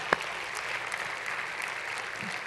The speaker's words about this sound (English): Come on, you want to clap? Come on, we'll clap together.